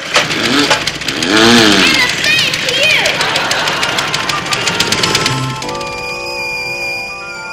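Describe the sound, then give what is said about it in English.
A high, steady dental drill whine sets in after a burst of rattling, sweeping mechanical noise and vocal-like sounds, holding a sustained electric hum through the final seconds. “I hope that didn't hurt. What didn't hurt? The drill.”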